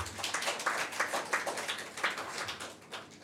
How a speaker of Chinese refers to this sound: 俾啲掌声我哋嘅主。